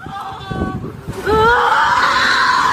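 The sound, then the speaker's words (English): Several people scream in anguish as workers flee an office park in Middleton, Wisconsin, during a shooting, high wavering cries that grow louder and more sustained after a second, overlapping into a continuous panicked wail with some agitated vocal sounds mixed in. “Screams of anguish as workers fled this Middleton, Wisconsin office park.”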